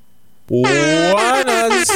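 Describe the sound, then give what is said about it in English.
A loud, blaring air horn sound effect bursts in abruptly and holds a bright, brassy tone, briefly cutting out and resuming a couple of times. “Where's my air horns?”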